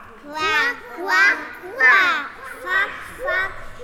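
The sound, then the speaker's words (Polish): Children's voices imitate an angry duck, giving five loud, rhythmic quacking calls in quick succession, each a short, strained, rising-and-falling squawk. “Co mówi kaczka, gdy jest bardzo zła?”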